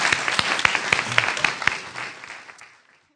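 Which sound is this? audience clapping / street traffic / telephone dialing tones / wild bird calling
audience clapping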